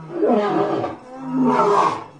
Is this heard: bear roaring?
yes